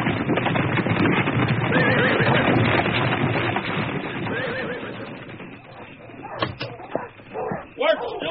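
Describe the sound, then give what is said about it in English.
A horse, ridden hard into the Lutwiler corral, whinnies loudly over a dense, churning din of hooves and commotion, then the noise thins into scattered sharp clops and thumps near the end. “Leroy had ridden so hard, he was already into the Lutwiler corral, hanging off his mount like an Apache horse thief, dead set to cut fences.”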